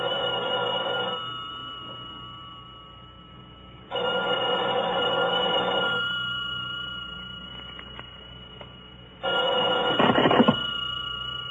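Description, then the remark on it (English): A telephone rings three times, with long silent gaps between the bright, buzzing bursts, fairly loud. No one speaks. “I'm sorry, but he can't come to the phone right now.”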